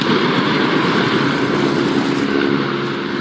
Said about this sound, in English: This was the moment a steam locomotive hurtled towards the end of the line over a disused quarry in the Peak District.